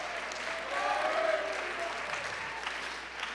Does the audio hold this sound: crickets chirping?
no